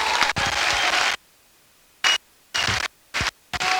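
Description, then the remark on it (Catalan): A crowd applauds loudly across the Plaça de la Vila in Sitges as the volunteer firefighters of Sitges arrive, a dense burst of clapping for about a second, then cutting in and out in short, choppy bursts separated by silent gaps. “Estan arribant ara mateix els bombers voluntaris de Sitges, rebuts amb un enorme aplaudiment per tota la plaça.”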